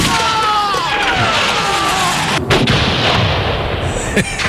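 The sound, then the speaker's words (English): A loud gunfire sound effect played for Chicago: a dense, continuous barrage of shots with whining, falling tones early on and a couple of sharper cracks standing out near the end. “You like bullets.”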